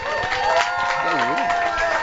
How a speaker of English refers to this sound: All right, little applause for